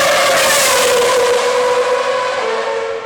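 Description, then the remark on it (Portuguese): A race car screams past at high speed, its loud, high-pitched engine whine dropping slightly in pitch as it goes by, steady with no voices. “o episódio de hoje está a 300 km por hora”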